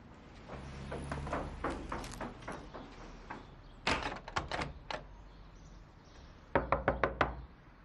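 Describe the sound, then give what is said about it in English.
Repeated knocking on a closed door in several bursts: a steady series of raps, a louder cluster of quick knocks, then a final sharp run of five or six hard knocks, clear. “He's not opening the door.”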